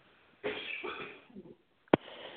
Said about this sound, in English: Goodness. To take a cough break there.